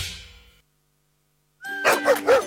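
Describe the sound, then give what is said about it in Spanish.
Dogs of an animal welfare corporation in Chile bark in a short burst of two or three quick, high barks, following a fading chime-like tone and a brief silence. “Esos ladridos son los perritos de la Corporación Mirada Animal Chile, que están felices por el nuevo Centro de Control y Recuperación Canina.”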